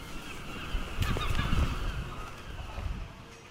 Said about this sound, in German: Die letzten Fischerboote laufen im Hafen von Peterhead ein, um ihren Fang auszuladen. Für die Möwen ein gefundenes Fressen.